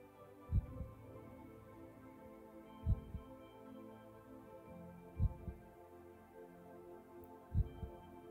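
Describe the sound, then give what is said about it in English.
A gong resonates with a steady, humming drone, struck softly four times at an even, slow pace, each strike a deep, muffled throb. No one speaks. “As you enjoy the sound of the gong, pay close attention and listen to your heart.”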